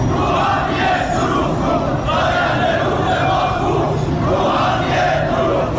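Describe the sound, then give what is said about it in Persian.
A large crowd of farmers chants slogans in unison, protesting the transfer of Zayandeh Rud river water to Yazd, Iran. The chanting is loud, with rhythmic swells every second or so over a constant roar of many voices. “از خوزستان گرفته تا فارس و اصفهان با کشاورزانی که در اعتراض به انتقال آب زاینده رودشان به یزد دست از اعتراض و تجمع و شعار بر نداشتند.”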